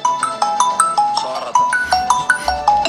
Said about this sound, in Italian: Questa suoneria l'ho sentita da un 86enne. ho la sì, stessa suoneria. Le altre non le sento. Ho la stessa suoneria.